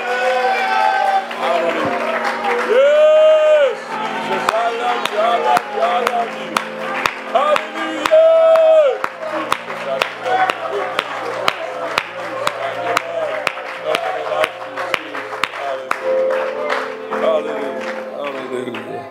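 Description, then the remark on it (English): A church audience claps and cheers together to thank God, dense, steady applause running throughout with loud shouts and whoops rising in bursts above it. “Why don't we clap our hands one more time and thank God.”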